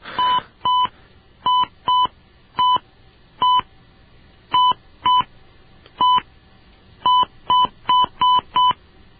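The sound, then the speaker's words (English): Touch-tone keypad beeps as an automated phone system dials a phone number: about a dozen short dual-pitched tones in uneven clusters, some spaced apart, the last few quick in succession, with no talking. “Please wait while we dial your phone number.”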